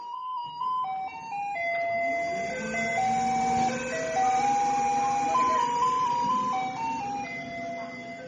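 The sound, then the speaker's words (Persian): A garbage truck in Taiwan plays Für Elise through its loudspeaker to tell people to come down and hand over their garbage, the tinny electronic notes stepping steadily up and down over a low engine rumble, continuous. “حتی در تایوان فور الیز یکی از آهنگاییه که از کامیونای زباله پخش میشه که به مردم خبر بده بیان پایین زباله‌هاشون رو تحویل بدن.”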